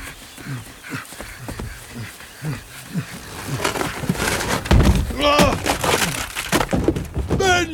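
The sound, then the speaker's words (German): Voices chatter briefly as rain begins, then a loud crash of splintering, breaking wood bursts in, followed by heavy animal bellows and trumpeting calls as Benjamin the elephant smashes through the wooden door into Herr Tierlieb's house. “Aber das ist doch kein Grund, zum 7. Mal in diesem Monat mit der Tür ins Haus zu fallen. Und was das wieder kostet.”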